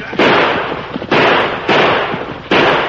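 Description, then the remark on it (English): Four loud gunshots go off at an uneven pace, each a sharp crack trailing into a long, noisy decay, with no voices in between. “You're shooting wild.”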